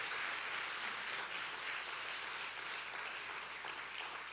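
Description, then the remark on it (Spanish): A church audience gives itself a round of applause for its generosity, bursting into a dense, steady wash of many hands clapping at even loudness for several seconds with no voices standing out. “Así que date un aplauso.”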